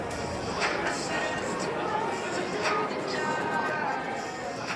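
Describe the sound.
Steady crowd murmur in a department store, with many overlapping voices chattering at a constant moderate level and faint shuffling movement mixed into the busy hum.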